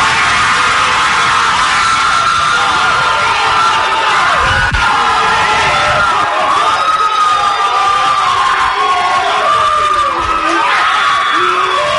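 A player's family at his home draft party erupts in loud, sustained cheering and high-pitched yelling as he learns he is being drafted by the 49ers, with overlapping shouts and whoops rising and falling continuously for about twelve seconds.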